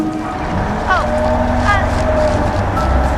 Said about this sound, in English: The bus pulls away as Ellen's cheery expression fades.